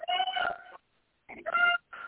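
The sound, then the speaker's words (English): A koala calls in rough, nasal bellowing bursts: one long groan, a pause, then two shorter grunting blasts, loud with no one talking. “So they're both koalas.”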